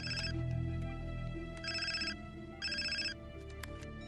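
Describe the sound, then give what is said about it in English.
A telephone rings twice in short, evenly spaced trilling bursts, fairly loud, over a low rumbling background that fades as the ringing begins. “slides the file on his son into a drawer and answers his phone.”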